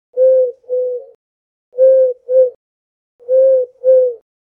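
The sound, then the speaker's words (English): A human voice imitates a mournful dove's coo, giving three paired low hoots, each pair a long note followed by a shorter one, evenly spaced, with no other sound. “We're moaning mournfully like doves. You know that sound? Sounds like that kind of woo, woo, woo sound.”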